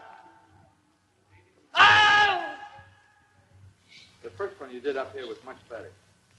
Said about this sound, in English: A man getting bit by an alligator and he screams. You can hear the original.